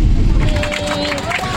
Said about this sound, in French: On a eu droit à quelques applaudissements, c'est rare.